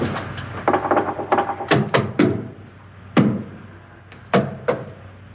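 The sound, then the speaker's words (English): Knocking on a wall, solid: a quick irregular flurry of raps followed by a few slower, spaced single knocks. Nobody speaks. “Now I'm going to knock on the other wall. When you hear me, you knock on this wall.”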